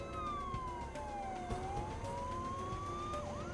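The siren of Deputy Sheriff Price's police car, which he has just switched on, wails steadily, its tone sliding slowly downward and then climbing back up, loud over a low rumble of road noise, with no one speaking.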